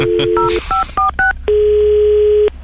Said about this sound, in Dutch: En die is zo met de telefoon gepakt, die is gaan bellen.